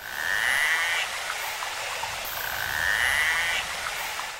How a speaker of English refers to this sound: Well, you've just heard one kind of sound that a narwhal makes. So narwhals are a type of whale with a big tusk on the front of their face.